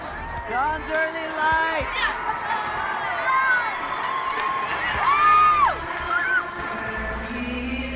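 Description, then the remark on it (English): A large concert crowd sings along in a loud, overlapping mass of voices, sustained wavering notes rising and falling over a steady roar of cheering and shouting, singing a lyric to remind the performer of a line she forgot. “Shout out to the crowd for trying to help her, reminding her what the line was.”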